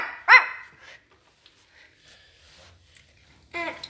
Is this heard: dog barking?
yes